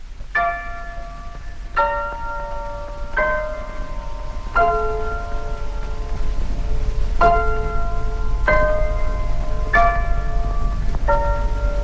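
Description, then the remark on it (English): A piano plays the Big Ben bell chimes at the start of a song recorded in 1951: eight slow, ringing single notes in two phrases of four, each decaying like a bell, over a constant hiss of an old, scratchy recording. “and it starts with the bells of Big Ben done by a piano.”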